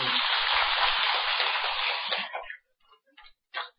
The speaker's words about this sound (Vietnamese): trụ trì chùa Phổ Độ, kính thưa toàn thể quý Phật tử, cha mẹ của cô dâu chú rể, và thưa hai nhân vật quan trọng nhất trong đêm hôm nay là cô dâu và chú rể, xin quý vị dành tràng pháo tay để chúc mừng.